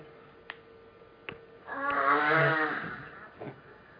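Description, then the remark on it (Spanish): A lion roars once: a single loud, drawn-out growl lasting about a second, rising and fading, preceded by a couple of faint clicks. No one talks. “Que eso es el león, ¿verdad?”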